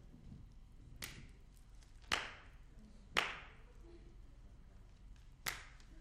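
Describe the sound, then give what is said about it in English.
Four sharp, single hand claps ring out at uneven intervals, each a crisp, bright smack standing alone over a low, steady background rumble, with no talking. “I don't like clapping in church because most people do it by rote.”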